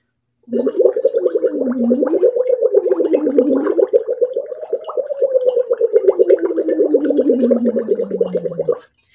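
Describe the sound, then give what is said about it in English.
Steady, bubbling gurgle of air blown through a straw into water in a big 40-ounce Stanley cup, a continuous rapid burble with a wavering pitch that rises and falls, lasting about eight seconds without pause. “Right now, I'm blowing bubbles into my big 40-ounce Stanley.”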